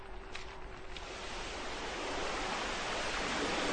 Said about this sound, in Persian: به رودخانه پر آب خروشانی میرسن. باید از روی پل چوبی باریکی که روی رودخانه است رد بشن.